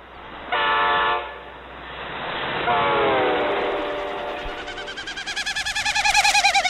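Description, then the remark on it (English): A male snipe winnowing: his rapidly beating wings force air through his widespread, narrow, stiff outer tail feathers, making hollow, humming bursts that swell and fall in pitch with a Doppler effect as the bird passes, ending in a fast, pulsing tremolo that grows louder. No voices, just the airy whirring. “His rapidly beating wings force air through his widespread outer tail feathers, which are narrow and stiff.”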